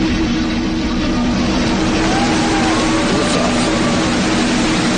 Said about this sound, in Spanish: Silencio que se traducía en aplausos minutos después cuando el Paz era lanzado al espacio a lomos de un cohete Falcon 9 de la empresa SpaceX en la base californiana de Vandenberg.